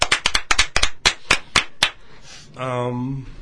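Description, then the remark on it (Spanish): Brief applause: about ten sharp handclaps in a quick, slightly uneven patter, fading out before a person begins speaking at the end. “Un aplauso para todas las Lupitas.”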